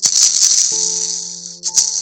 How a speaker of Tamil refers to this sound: இப்போ ஒரு சவுண்டு கேட்டிருப்போம். இதுதான் பார்வை குறைபாடு உடையவர்களுக்காக பயன்படுத்தக்கூடிய பந்து. இது சவுண்டு பால்னு சொல்லுவாங்க. இந்த பால் ரொம்ப ஸ்ட்ராங்கான பிளாஸ்டிக்கால ஆனது. இதுக்குள்ள பால்ட்ரஸ் என்ற ஒரு குண்டு நிரப்பப்பட்டிருப்பாங்க.